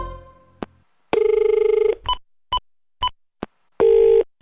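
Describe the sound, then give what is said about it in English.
A phone call being placed to a mobile phone that is outside the coverage area: a couple of clicks, a long electronic ringing tone, a few short dialing beeps, then another ring tone. Clear, with no one speaking. “The mobile phone customer you have called has travelled outside the coverage area.”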